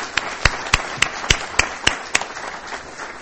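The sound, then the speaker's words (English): A conference audience applauds a panel steadily, a dense patter of many hands with a few louder, sharper claps cutting through at a regular beat, moderately loud, with no one speaking. “So please join me in a round of applause for this very good panel.”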